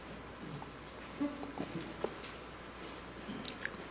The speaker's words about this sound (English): And a sip of vodka here.